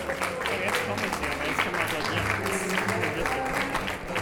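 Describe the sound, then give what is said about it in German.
Dense, steady, frenetic applause from a large theatre audience as the ensemble comes out on stage fills the whole stretch, a rapid crackle of many hands clapping at once with a low crowd murmur underneath. “Das Ensemble kommt, Applaus, frenetisch.”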